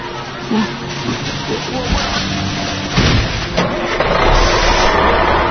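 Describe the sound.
A truck engine turns over and rumbles to life, then revs louder as the truck pulls away carrying McQueen, with indistinct voices mixed in under the noise.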